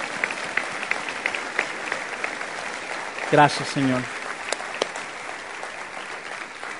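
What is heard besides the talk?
audience applauding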